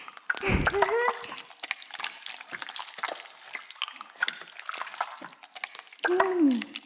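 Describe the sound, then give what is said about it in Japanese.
Shampoo being worked into a lather for washing the head: continuous wet squishing with fine foamy crackles and drips, and brief voice sounds at the start and end. “もう十分泡立ったと思うし。”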